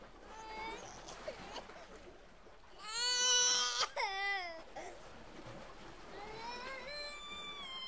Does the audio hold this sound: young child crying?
yes